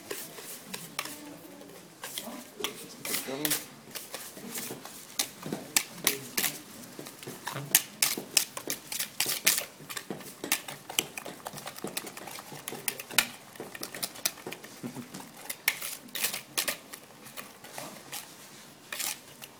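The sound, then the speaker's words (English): A whisk beats a sugar and banana mixture in a bowl, producing a fast, steady stream of sharp clicking and tapping that continues for about twenty seconds without letup. “And we're not whisking bird's eggs, we're whisking mixture of sugar and banana.”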